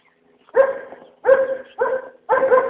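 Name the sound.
dogs barking and whimpering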